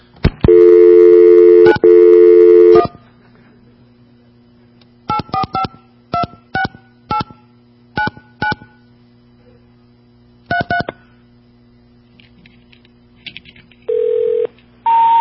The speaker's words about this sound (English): While we're here, let me go dial another phone number for you.